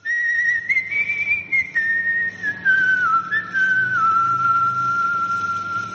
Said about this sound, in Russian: Этот свист непростой. Это позывные подпольной французской радиостанции «Радио Родина», действовавшей во время нацистской оккупации. Мелодию насвистывал актер Клод Дофен.